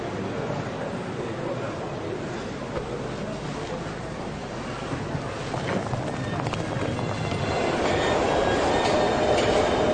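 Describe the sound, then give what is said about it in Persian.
Steady rumbling interior of a moving metro train, heard while seated aboard, with continuous rail noise and clatter that swells louder toward the end; faint indistinct voices sit low in the mix. “در قطار مترو نشسته، پسرکی سازدهنی میزن، دخترکی فال میفروشه.”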